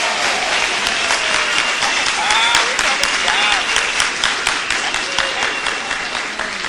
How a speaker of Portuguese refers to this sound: A gente queria te agradecer profundamente. Receba aí uma salva de palmas de todos nós por ser voluntária.